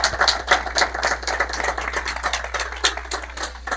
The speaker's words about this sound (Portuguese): Isso aí. Ótimo. Uma salva de palmas